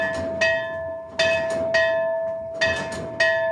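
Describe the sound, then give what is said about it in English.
A church bell rings out in quick, uneven strokes, each clang layering over the last so the metallic tone hangs continuously. It is loud, with no voices. A priest rings it at the back of the church to signal that Mass is about to start. “Father Roy then goes to the back of the church to ring a bell, signaling that Mass is about to start.”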